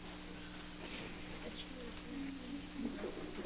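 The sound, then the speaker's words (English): A bird coos softly in low, repeated warbling notes, set against a steady background with faint murmuring voices. “We have a bird.”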